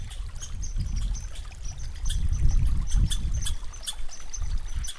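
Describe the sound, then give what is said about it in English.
A small stream of snowmelt water trickles and gurgles steadily, with bright little splashes over a low, continuous rush and no voices. “Seasonal change had been carried downstream by the melting snow.”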